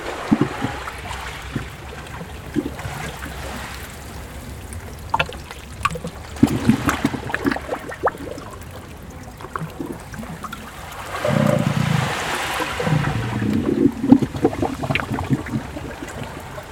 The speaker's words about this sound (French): Le ressac immuable.